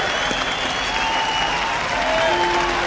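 A crowd at a Montana ski competition applauds a skier steadily, a dense wash of clapping holding at an even level throughout, with faint tonal sounds like whistles or horns drifting through underneath.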